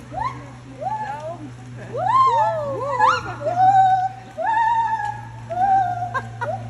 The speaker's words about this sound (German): Ja, vor allem, den haben wir schon von der Weiden gehört. Ja, damit ihr wisst, wie sich ein Brüllaffe anhört, haben wir da einen kurzen Outtake davon.